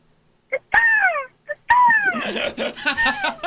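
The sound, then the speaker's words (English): A voice imitates a bird in an animal-sound contest with two sharp, falling whistled squawks, each led by a quick click, then a string of warbling chirps and chatter rising and falling in pitch. “All right, it's a bird.”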